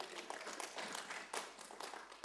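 A small audience applauds, a soft, steady patter of many hands clapping together for a couple of seconds with no one speaking.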